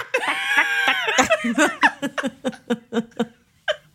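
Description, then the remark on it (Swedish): A high, squeaky voice imitates a clucking hen: a drawn-out rising squawk followed by a quick series of rhythmic, clipped clucks, fairly loud. “Lite inspirerad av hönan.”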